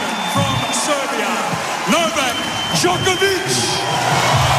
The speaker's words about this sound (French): Djokovic. Il y a plus d'applaudissements pour Djoko. Ouais. Hein. Il a gagné à l'applaudimètre.